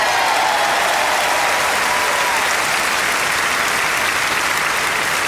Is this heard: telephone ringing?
no